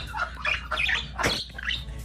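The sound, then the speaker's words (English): A budgie squawks and chatters in a rapid run of harsh, high-pitched calls, with one sharp louder squawk in the middle and no voices. “That's just a budgie making a sound”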